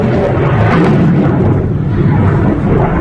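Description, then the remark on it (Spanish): An Israeli air force missile strike on Beirut, Lebanon, sounds as a deep, heavy roar that rumbles steadily for the whole moment, loud, with no distinct separate blasts and no voices. “La aviación israelí no tardaba en responder con misiles en Beirut.”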